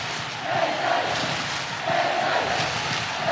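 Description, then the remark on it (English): A huge stadium crowd at Croke Park roars and cheers in a steady, dense wall of noise, with surging swells of shouting rising and falling over a few seconds. “And, you know, we could definitely hear the cheers and the cries, and the roar is probably a much more precise word from Croke Park.”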